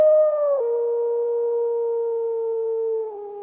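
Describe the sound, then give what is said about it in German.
A long, drawn-out wolf howl holds a steady mournful pitch, dipping slightly partway through and again near the end. It sounds loud, with no talking. “Was ist mit den Wölfen? Sind sie in die verzauberte Höhle gelaufen?”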